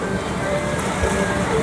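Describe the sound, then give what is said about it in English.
The paddle wheel of the riverboat Mark Twain churns water in a steady, dense rush of splashing noise, with a faint mechanical hum running underneath throughout. “Pretty amazing how much power that wheel has.”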